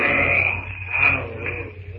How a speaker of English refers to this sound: The greater of the apes emits a fearful cry, which echoes through the jungle to silence all within hearing distance with its ferocity. It is a challenge.